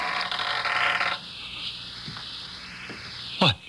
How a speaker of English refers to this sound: The door. It's going to open.